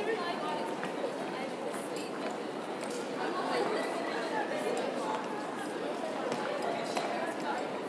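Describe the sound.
A big crowd of children going past in a baggage hall, their chatter forming a steady, dense babble of many overlapping voices that holds at an even level throughout, with scuffling footsteps mixed in.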